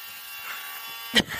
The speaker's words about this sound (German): Das ist ein kleiner Ventilator.